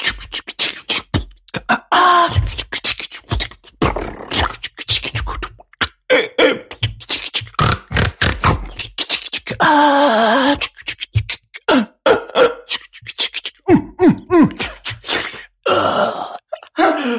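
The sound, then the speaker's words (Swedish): Vocal beatboxing, fairly loud: fast, steady bursts of mouth-made kicks, snares and hissing hi-hats, with a few hummed or buzzing tonal passages mixed into the rhythm. No words are spoken. “Jag vill ha lite bara din beatbox om någon lyssnar vill göra en remix.”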